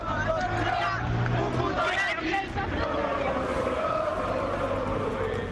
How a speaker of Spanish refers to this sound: de Vallecas al descanso por los gritos de puto nazi dedicados por el grupo radical Bucaneros, pero no solo desde ese fondo, también de otras zonas del estadio, acerca de Zozulia, el futbolista ucraniano del conjunto manchego. Gritos como este.